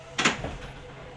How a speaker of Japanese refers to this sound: 後ろ側を閉めます。 ドアが閉まります。ご注意ください。